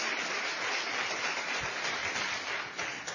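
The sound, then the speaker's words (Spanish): An audience at a talk claps steadily for about three seconds for the speaker's host as she comes up front, a dense, even wash of many hands with no voices rising above it. “Un aplauso a Elisa, que es mi anfitriona.”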